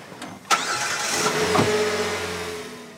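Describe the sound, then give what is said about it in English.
A minivan engine cranks with a sharp click and starts in a garage, then settles into a steady mid-pitched hum that rises slightly as the van pulls away and motors up a steep driveway, with no voices. “The van motors up the steep driveway.”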